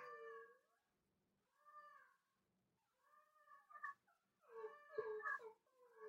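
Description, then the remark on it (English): Dogs howl and whine in long, wavering, high-pitched cries, several drawn-out bursts overlapping toward the end, moderately loud with no talking: the dog Bingo howling along while the dog Kobe cries from the other room. “Oh, so Kobe is crying from the other room and Bingo is howling.”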